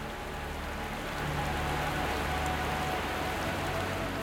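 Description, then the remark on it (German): Steady rain patters down in a dense, continuous hiss of countless drops, holding an even, moderate loudness throughout with no voices present. “Hörst du noch in dir die Stimme der Meerjungfrau, als würde sie aus den vielen Tropfen des Wassers zu dir sprechen?”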